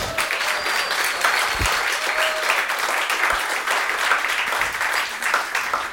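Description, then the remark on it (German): Sustained applause from a live audience in Alpbach, a dense, steady wash of many hands clapping for the full six seconds, fairly loud and even, with no one speaking over it. “Können Sie sich noch ein bisschen bemerkbarer machen, dass man Sie auch wirklich auf unseren Mikros hört, damit man dann bei der Aufzeichnung weiß, wir waren wirklich in Alpbach und da waren wirklich Leute, die zugehört haben.”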